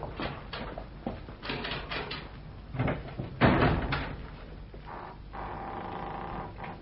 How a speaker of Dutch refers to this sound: Laten we nog eerst de deur van de bunker openmaken.